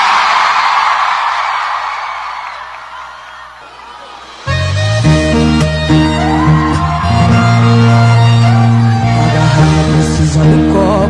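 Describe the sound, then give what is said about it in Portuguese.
A large crowd at a live concert in Salvador roars and shouts for about four seconds, answering the singer's call to raise their hands and shout. The cheer swells and then fades before a loud live band abruptly kicks in and plays on. “Quem gostou, joga a mão e dá um grito, Salvador.”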